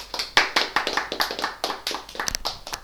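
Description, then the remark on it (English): An audience applauds with a dense, irregular burst of many hands clapping, steady for a few seconds, with no voices heard. “Applause.”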